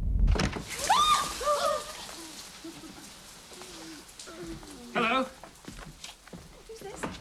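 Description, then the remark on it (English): The hall door of a family home in London opens with a soft thud and a wavering, squeaky creak, followed by quieter shuffling, a brief higher squeak, and faint voices in the background. “Back in her family home in London, … opens the hall door to find … and ….”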